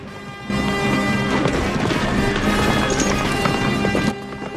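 horse galloping

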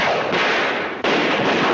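gunshots

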